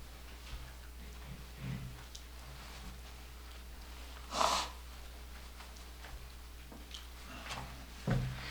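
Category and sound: human body sound, person blowing their nose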